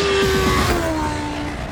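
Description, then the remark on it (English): The engine of the new BMW M1000RR superbike screams loud and high-pitched at its world premiere, its steady whine easing slightly in pitch as the revs drop over a short burst. No voices are heard. “Judging by the sound of the engine, you'll have guessed that this is the one where the incredible new MRR was unveiled.”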